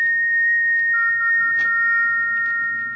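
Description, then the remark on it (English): An eerie, high whistle heard late at night in a bedroom as a storm brews holds one steady, piercing pitch throughout, joined after a second by a second, slightly lower tone, over a faint low rumble. “What's that? What's that whistle? Who is it?”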